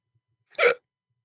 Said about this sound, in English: Sorry, had a hiccup.